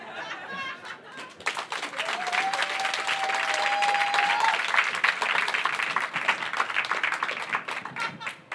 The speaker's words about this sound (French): Hop ! On applaudit.